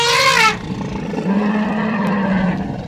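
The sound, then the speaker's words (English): Two elephants calling in a study recording: a bright, harmonic trumpet-like blast for half a second gives way to one elephant's sustained, deep rumbling roar that holds steady to the end, with no talking. “I think that the one who's roaring, so you can hear that very deep roar”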